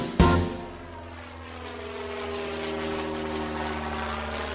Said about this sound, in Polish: Nasz samolot szybko mknie, ponad chmury wznosi się. Nasz samolot szybko gna, kapitanem, kapitanem jestem ja.